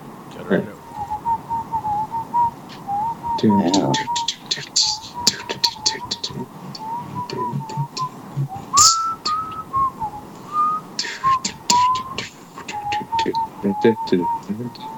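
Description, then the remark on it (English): Someone whistles a wandering melody, the tune carrying steadily for the whole stretch with brief pauses, over a busy background of clicks, rustles and faint murmuring. “I'm gonna whistle one.”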